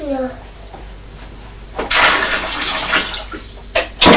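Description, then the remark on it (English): A child splashes water in a bath: a burst of sloshing for about two seconds, then a second quick splash. A brief voice is heard at the start. “You'll be in trouble if I get soaking wet.”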